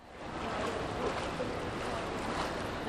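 Steady, close-up water splashing and churning, like a swimmer stroking through a pool, continuous for a few seconds with no voices.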